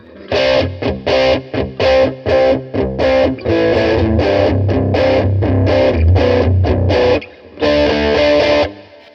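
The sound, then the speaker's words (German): A distorted electric guitar played through an effects unit set for a crunchy, old-school overdrive plays choppy rhythmic chords, loud, with a few short gaps between strums and no voices. “Ein bisschen Oldschool-Verzerrung.”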